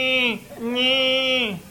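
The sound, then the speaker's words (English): Two loud calf bawls in a pasture with many cows, a short one followed by a longer drawn-out call, each a strained, nasal bleat with a rough tone that drops in pitch at the end. “Calves.”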